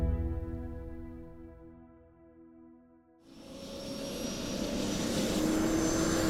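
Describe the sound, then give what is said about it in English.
A helicopter engine hums with a steady droning whine that fades, then a loud, rushing roar of engine and rotors surges up and holds. No one speaks. “onto the chopper, and be quick about it.”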